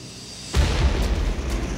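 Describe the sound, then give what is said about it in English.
A sudden, loud explosion, heard from inside a van stopped at a red light at La Jolla Village Drive and Genesee, bursts out of near-silence, followed by a heavy, sustained rumbling roar with deep low-end energy that continues without fading. “And it was then that I heard the explosion.”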